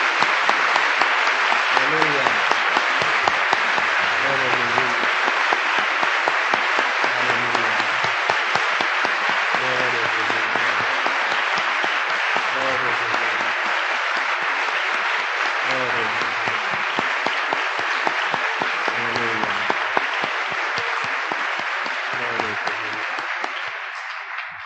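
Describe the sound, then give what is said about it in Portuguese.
An audience applauds the Lord steadily and loudly for the whole stretch, a dense wash of clapping, while a voice calls out intermittently over it. “E nesta hora, não só podemos dizer amém, mas é hora de aplaudir o Senhor que está fazendo tais coisas.”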